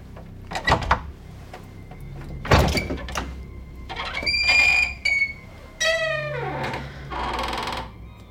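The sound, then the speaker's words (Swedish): A narrow door under the roof ridge, covered in the same wallpaper as the wall, is opened with a series of knocks and thumps, followed by long creaking, squealing hinge sounds and a rattling scrape as it swings open. No one speaks. “Stannar till framför en smal dörr under taknocken. Klädd i samma tapet som väggen. Ja. Öppna, så får du se.”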